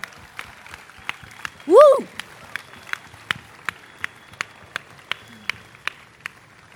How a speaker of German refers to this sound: Erstmal Applaus an alle, die sich eingesetzt haben für den Walderhalt.